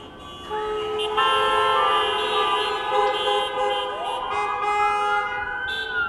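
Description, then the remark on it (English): Emergency vehicle sirens wail continuously, their rising and falling tones layered together over steady traffic noise, loud, with no talking. “Oh, we got sirens.”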